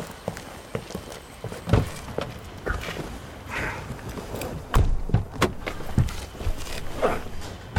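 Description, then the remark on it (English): People climb into a car, with shuffling, rustling and several dull thumps of doors shutting, spread irregularly across a few seconds with no one speaking. “Perhaps we should get into my car.”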